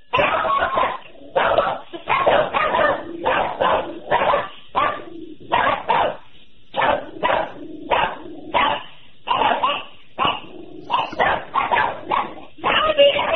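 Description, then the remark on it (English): A dog barks over and over in quick, uneven bursts, some yelping and whimpery, heard through a caller's thin, muffled phone line on a radio call-in program at moderate loudness. “I think that's a bark.”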